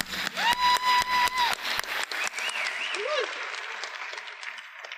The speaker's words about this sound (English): so I'd just like to give him a round of applause, too.